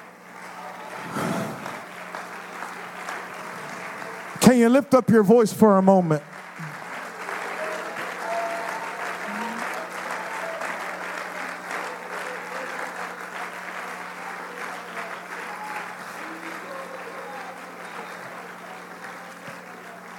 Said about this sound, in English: Everybody stand on your feet and clap your hands unto the Lord. Can you?